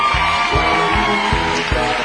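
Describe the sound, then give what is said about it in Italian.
A loud studio audience cheers and whoops over dense, sustained applause that is being recorded for a CD, with a steady rhythmic thumping underneath, energetic throughout. “Dato questo pubblico che è qua, che fa parte del CD, pensa, comprerà il CD solo per risentire, perché dice gli applausi del CD eravamo noi.”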